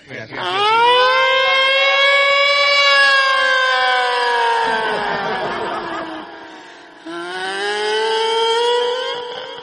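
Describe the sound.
A voice imitates an ambulance siren with a long, rising and sustained wail, breaks briefly, then swells into a second wail. Loud, with no other talk.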